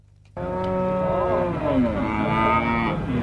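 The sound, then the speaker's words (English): Cattle exhibited in lines at a packed beef industry show in Queensland moo loudly and continuously, a long, low, wavering bellow starting abruptly and holding for about three seconds, with no talking. “There's lines and lines of cattle here, all proudly exhibited by the families, the schools, the businesses that own them.”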